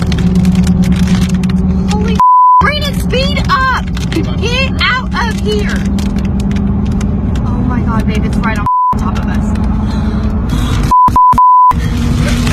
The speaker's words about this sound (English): But listen to the low tone of the tornado. It's really pretty cool.